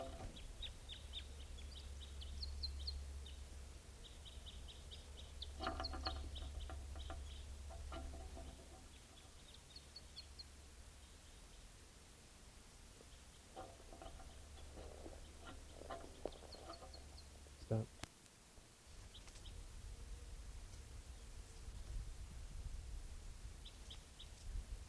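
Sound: wild bird calls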